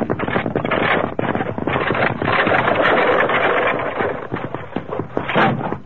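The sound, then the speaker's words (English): A runaway wagon wheel, a standard rear wheel off a Concord stagecoach, rolls off the main trail down to the bottom of a deep ravine, a loud, continuous clattering roar thick with rapid, irregular knocks and bumps that swell and ease slightly over several seconds, with no voices. “Evidently a runaway wagon wheel.”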